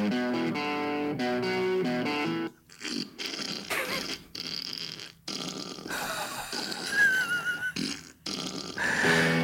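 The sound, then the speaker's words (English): A short guitar melody rings out clean, then is played again through an effects pedal that turns each note into a loud, raspy, sputtering fart-like blat, with choppy gaps between phrases. “Playing the same melody with the fart pedal. That's how it sounds.”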